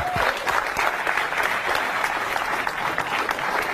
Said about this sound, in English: I would argue that there was not enough clapping for that part right there.